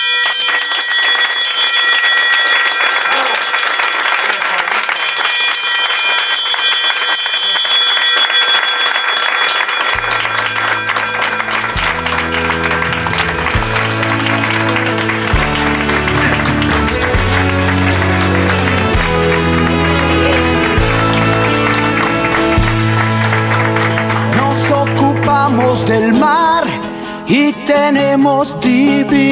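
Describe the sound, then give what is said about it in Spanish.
A hospital bell rings over and over as a patient finishes treatment, amid loud, continuous applause and cheering from doctors, nurses and other staff, with a deep rhythmic musical bassline joining about a third of the way in. “Esta campana suena cada vez que un paciente termina su tratamiento.”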